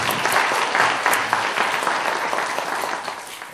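A church audience claps in steady, continuous applause of blessing, welcoming a new member after a confession of faith, a dense wash of many hands at full volume for several seconds before easing slightly toward the end.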